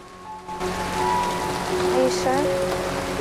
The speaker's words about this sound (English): You can't be in the rain.